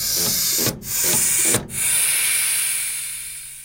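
A steady, loud hiss of compressed air, broken twice by brief cut-offs before resuming, then slowly tapering off toward the end. No voices.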